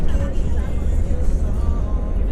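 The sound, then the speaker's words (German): A bus drives toward the USS Missouri battleship at Pearl Harbor, Hawaii, with a steady, deep engine rumble and road noise that stays constant and fairly loud throughout, with faint muffled voices blending into the interior hum. “Der Bus steuert die USS Missouri an.”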